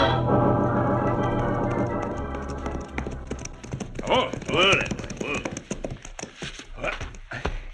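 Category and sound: animal, horses' hooves clip-clopping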